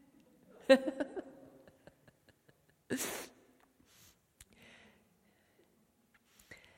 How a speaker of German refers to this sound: Jetzt muss ich mal niesen. Sorry, aber ich glaube, das ist allergisch.